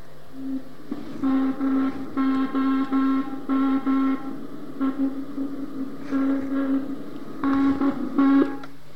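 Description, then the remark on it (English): A slowed-down radio signal from a second-generation Russian spy satellite, with a Doppler shift: a steady, low buzzing tone broken into uneven on-off bursts with bright harmonic layers, pulsing like Morse code, with no voices. “We tuned that out as Morse code interference. But then we realised, three revs later, it got a Doppler shift on it.”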